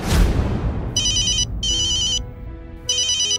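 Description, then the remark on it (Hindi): A phone ringtone rings in three bright, electronic bursts with short gaps between them, loud, following a brief soft rustle at the start. No one speaks. “उसने मुझे फोन किया।”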